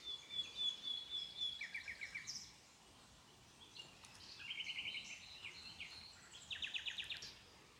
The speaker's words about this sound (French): L'objet de ce moment, l'objet de notre méditation, ce sont les rossignols. Alors établissons clairement l'envie d'être présent et d'entendre chaque chant de rossignol, chaque phrase.